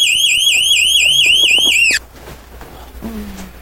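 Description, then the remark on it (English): An Amazon Echo smart speaker alarm rings loudly with a rapid warbling, repeating electronic tone, then cuts off abruptly after about two seconds when switched off by voice command, leaving quiet background noise and a faint low hum. “That's not a morning person, but Echo definitely helps him wake up. Alexa, alarm off.”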